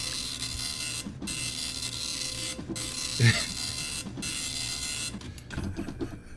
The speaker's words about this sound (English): A dot matrix printer.